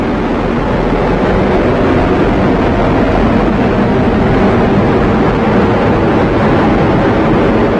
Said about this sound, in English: Coming up on 30 seconds into flight, the RD-180 is throttling down as expected. Engine response looks good. And Mach 1 Atlas 5 is now supersonic.